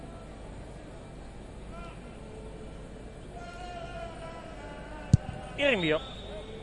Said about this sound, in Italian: Vi garantiamo che non si gioca a porte chiuse, nonostante non si senta praticamente nulla, a parte nulla, quasi il rumore del campo. Infatti si sente qualche tifoso effettivamente in sottofondo.